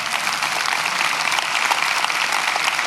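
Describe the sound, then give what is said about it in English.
A large church audience claps and cheers steadily and loudly for a few seconds, a dense wash of applause with no one speaking, cheering on people who raised their hands during the service. “Can we cheer these people on?”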